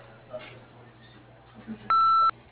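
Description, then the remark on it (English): A single loud, steady electronic answering machine beep from Pine Acres, lasting under half a second, sounding over a thin, humming phone line after a stretch of quiet line noise. “If you'd like to leave a message, please do so after the beep.”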